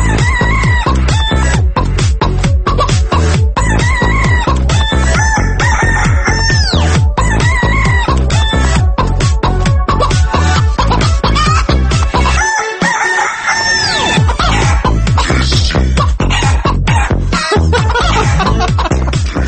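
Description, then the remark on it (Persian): Loud hens cluck constantly in a dense, rhythmic stream while laying eggs, with occasional longer squawks, filling the whole stretch without a break and with no one talking. “دارن تخم میذارن، خسته نباشین خانم مرغه.”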